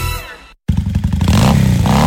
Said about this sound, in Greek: Αν σας αρέσει αυτός ο ήχος και αγαπάτε τις μοτοσικλέτες, τότε δεν πρέπει να χάσετε το CVC Motorcycle Festival στις 11 και 12 Οκτωβρίου.